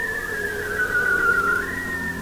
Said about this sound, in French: Ces sons produits sous l'eau sont très puissants. On peut les percevoir à plus de 30 km et même lorsque vous êtes sur un bateau ou sur la banquise, vous entendez à travers la glace le chant envoûtant des phoques barbus.